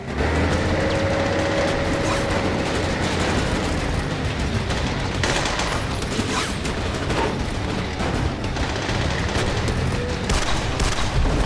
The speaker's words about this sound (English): Jack takes cover behind a stack of containers as the enemy fire intensifies.